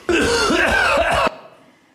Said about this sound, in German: Und einen haben wir noch. Huster 11. Das waren sie, die 11 Huster.